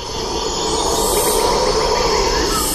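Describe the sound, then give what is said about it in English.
A steady, deep roaring chorus of howling monkeys waking at dawn at the tops of forest trees fills the whole stretch, a dense rumbling drone that stays loud and unbroken, with no one speaking. “A low-frequency sound are the sounds of monkeys waking up, the howl of monkeys, see the dawn coming, and they climb to the top of the trees and release this sound.”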